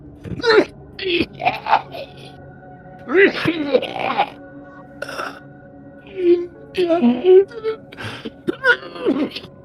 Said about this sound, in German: Und er öffnet den Mund und atmet erstmal ganz schön viel von dem Nebel ein und versucht zu sprechen, muss dann aber husten.